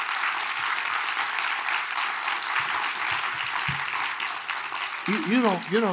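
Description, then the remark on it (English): Dense, steady applause from a large crowd in Montreal fills the space continuously, with a man's voice rising over it near the end. “Somebody not clapping.”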